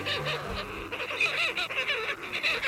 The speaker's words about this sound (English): Seabirds, like this short-tailed shearwater, spend most of their lives on the open ocean.